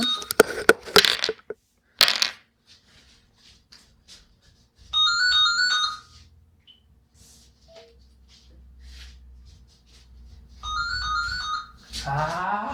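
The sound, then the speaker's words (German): A telephone rings twice with an electronic, harmonic trill, each ring lasting about a second with a long pause between, preceded by some brief handling clatter and rustling. “Mach mal ganz gut, mach mal kurz Stopp, weil das Telefon.”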